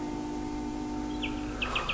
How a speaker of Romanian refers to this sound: Ioane, Ioane, auzi? Privighetoare, Avrămuț. Nici ea nu doarme. Oare ei ce cântă? A, păi, de dorul verii cântă.